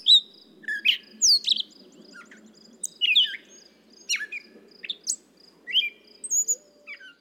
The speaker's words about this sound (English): I was already digging around to try to figure out what this was. What the bird in my little song might be. I thought at first that it was the gray catbird.